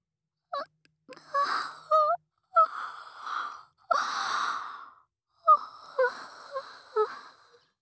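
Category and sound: human body sound, big yawn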